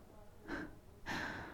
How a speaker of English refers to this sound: your breathing is so heavy.